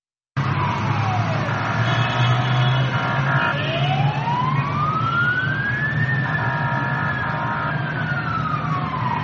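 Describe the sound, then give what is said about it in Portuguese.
Emergency sirens wail steadily from fire engines and ambulances converging on a burning train during rush hour, rising and falling in slow sweeps, loud over a deep rumble of engines and traffic. “Viaturas de bombeiros e ambulâncias convergiram para o local durante a hora de ponta, com os bombeiros a lançar água sobre as carruagens que estavam a arder.”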